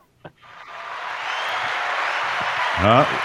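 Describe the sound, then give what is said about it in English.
A canned burst of applause played from an applause button swells in after a short click and holds steady as dense, hissy clapping, with a brief rising tonal flourish near the end. “We have to use the applause button.”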